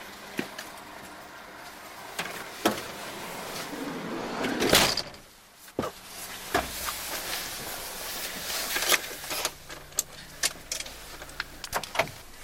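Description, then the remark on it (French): Keys jangle and click as a car ignition is tried with the steering wheel still locked, with a brief whirring surge that dies away without the engine catching, followed by scattered sharp knocks and rattles. “Mais c'est pas possible, ça ne démarre pas.”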